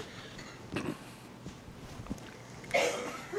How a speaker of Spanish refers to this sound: Vamos a trabajar esa tos, esa me la voy a echar por cortesía de la casa.